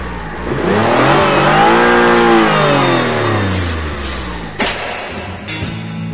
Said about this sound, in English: But then came a revolutionary new invention, the motor car.